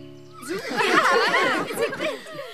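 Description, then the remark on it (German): A horse gives a loud whinny lasting a couple of seconds, its shaky, wavering pitch rising and falling before trailing off, at the Reiterhof Lindenhöhe riding stable, in front of the stables in warm afternoon sun where horses are being groomed. “Nicht weit von ihnen, vor den Stallungen, striegeln Wendy und Bianca in der warmen Nachmittagssonne ihre Pferde.”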